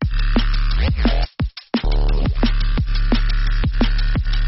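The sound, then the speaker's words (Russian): A synthesized shaker drum loop, made to sweep like a brush, with dense ticks in a swung rhythm over a steady low thump, loud and continuous apart from a brief dropout partway through. “Слышите, да, такой тык-тык-тык-тык.”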